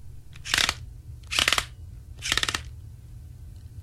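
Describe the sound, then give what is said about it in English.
Three harsh, scraping grinds repeat at an even pace, each a short raspy burst over a steady low rumble, like toy car wheels with broken cogs catching and grating as they turn; used in a film for Will Ferrell's Lego character growing between normal size and larger. “That's the wheels of a toy car with broken cogs.”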